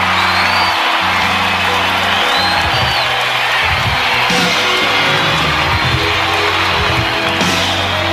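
A live audience at a live stage show roars with sustained applause, whoops and cheers, greeting a singer making his first appearance in a long time, a dense, loud wall of clapping and shouting that never lets up, with a low musical rumble underneath.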